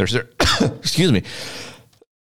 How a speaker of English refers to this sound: Sorry about that. I don't know where that cough came from. Kind of came out of nowhere.